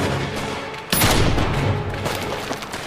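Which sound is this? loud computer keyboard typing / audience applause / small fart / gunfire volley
gunfire volley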